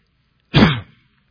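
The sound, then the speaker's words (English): A single short, harsh cough bursts out, rough and throaty, then quickly trails off into silence. “I'm going to try my best not to cough.”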